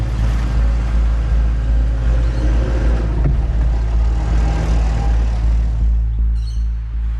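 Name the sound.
car driving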